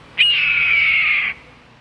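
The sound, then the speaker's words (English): A single loud, raspy red-tailed hawk scream, held for about a second and slowly dropping in pitch, clear against a quiet background. “Perhaps a bit of freeway birdwatching may ease the frustration of slow traffic, so watch for this bulky football of a hawk. Once red tails find a successful hunting area, they return often.”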